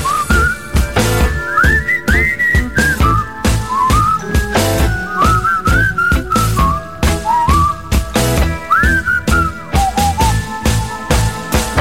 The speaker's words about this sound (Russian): Свисти, эх!